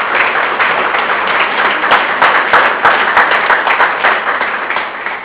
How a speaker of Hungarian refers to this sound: Én kérnék szépen egy nagy tapsot a récsági Vöröskereszt dolgozás aktivistáinak.